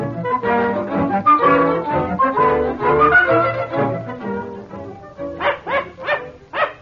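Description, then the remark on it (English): A small dog barks and yips in rapid, excited bursts, loud, with a quick run of sharp yaps near the end. “Dear, they would have a dog.”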